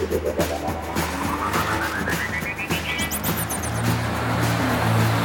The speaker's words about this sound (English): After a car passes